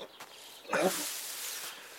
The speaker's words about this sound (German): Boah, Alter, das Pferd hört sich ja echt mies an.